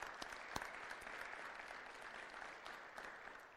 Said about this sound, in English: So I just want to say thank you, and it would be a good thing to give a round of applause just to thank God for them.